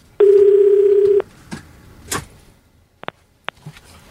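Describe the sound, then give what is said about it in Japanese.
A telephone ringback tone sounds once on a call placed to a voyager about 650 km from San Diego, where it is midnight. The tone is a steady, low-pitched buzz lasting about a second. Then comes quiet with a few faint knocks and two short clicks. “今のところまだ、 うん、お呼んでる呼んでる。”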